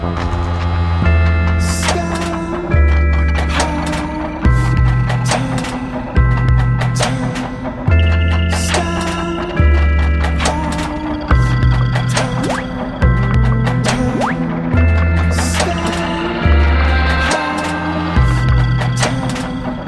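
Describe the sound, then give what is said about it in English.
A rap song plays loudly and steadily, a hip-hop beat driven by heavy, regular bass thumps with layered melodic lines and crisp percussion hits repeating in a looping rhythm. “He's once again crafted a rap album that puts many others in the game to shame, as his vernacular flows rhymes as fast as water spewing from a broken dam.”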